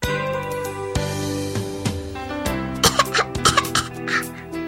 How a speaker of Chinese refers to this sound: 妈妈没在家，爸爸又抽烟了。哎呀，呛得我直咳嗽。